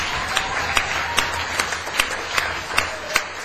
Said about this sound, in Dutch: Echt applaus voor jullie. De wijze waarop jullie je hebben verbeterd.